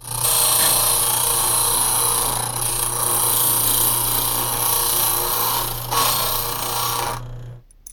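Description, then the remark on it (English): A key duplicating machine cutting a new key copy grinds steadily for about seven seconds, a loud, harsh metallic whir with a low motor hum and scratchy high-pitched rasping, then cuts off abruptly. “Okay, well, I can either take the lock off or make you a new key copy, but I don't have the equipment to make a new lock.”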